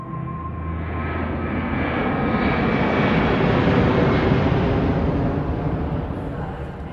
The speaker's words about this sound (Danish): Vi er i lufthavnen i Los Angeles i november. Og flyet fra København, det er lige landet.